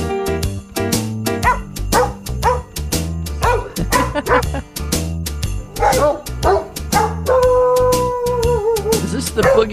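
Dogs bark out the melody of Jingle Bells over a steady musical backing, each yelp pitched as a note in a bouncy, rhythmic tune, with a sustained tone near the end.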